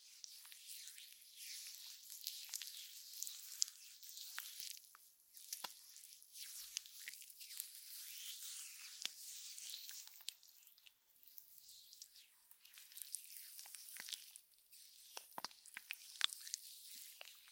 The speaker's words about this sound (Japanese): さて、そしてね、被害が甚大にならないように、黒耳ちゃんで今回は撮らせていただいてます。いつもとは違う感じのマッサージの音、いきます。